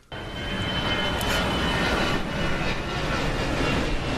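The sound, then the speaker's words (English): A loud, steady engine roar fills the air, a broad rumbling drone as a big plane passes overhead, holding constant without pause and with no voices. “He looked way up. He saw a big plane.”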